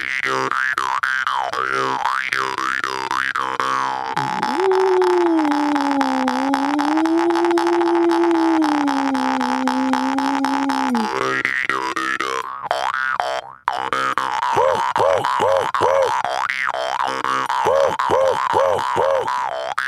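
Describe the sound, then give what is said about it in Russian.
A jaw harp twangs with wavering, buzzy overtones while a voice joins in, drawing out a long, low, wolf-like howl that rises and sags before the rapid twanging resumes. “Делают пение волков, рыки всякие. Прям с варганом одновременно.”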